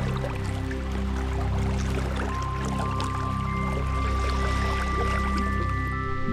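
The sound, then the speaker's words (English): Continuous rushing, splashing water like a waterfall pours steadily throughout, blended with sustained low droning tones. No voices are heard. “Hear the sounds of the waterfall as it pours down to the river of consciousness.”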